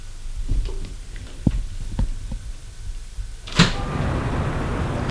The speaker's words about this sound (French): Arrivé dans le hall de l'immeuble, il va ouvrir la porte de l'allée en faisant bien attention.